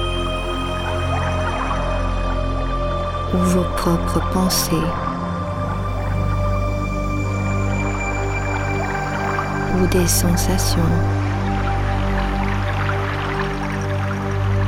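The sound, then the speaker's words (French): Soft ocean waves wash steadily in the background beneath a calm, low-pitched voice speaking, with sustained tonal music layered over the constant watery hiss. “Comme le son de ma voix ou le son des vagues”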